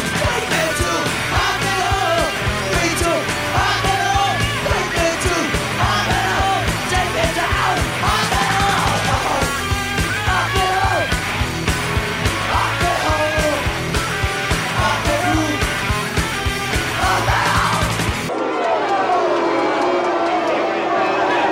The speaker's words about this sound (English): Booing John McCain that followed a portion of the president's speech where he blamed McCain for the death of repeal and replace last time.